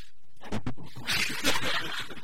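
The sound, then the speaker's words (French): A person growls and barks in imitation of a dog, a few rough, throaty bursts with harsh breathy noise in between. “Bon, et bien, puisqu'on fait un chien, on va un chien, hein.”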